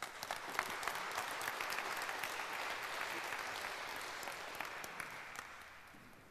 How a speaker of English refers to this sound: Give her a warm applause for